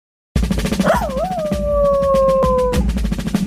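A dog lets out a single long howl that wavers at first, then holds a steady drawn-out note for nearly two seconds before breaking off, over a busy background of pulsing noise.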